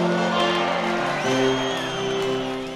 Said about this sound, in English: I just love how everybody knows the words, and you know, they're playing out to like this huge outdoor crowd.